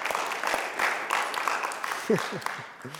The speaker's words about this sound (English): Man, give yourself an applause for being here.